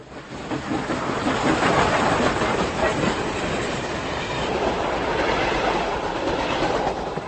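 A train rolls past close by on the railway line at Prague-Smíchov station, beside an artist's studio in the Meat Factory: a loud, steady rushing roar with a busy rattle of wheels on track that holds constant throughout, with no voices.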